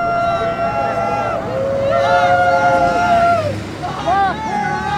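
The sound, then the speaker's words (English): A crowd of people heading to a President Trump rally chants the slogan "Lock her up" in unison, many voices holding drawn-out, sing-song syllables in repeating phrases, loud and steady over a rumbling backdrop of noise. “then everyone kind of leans out the window with their phones taking pictures and yelling, and then they start chanting usually.”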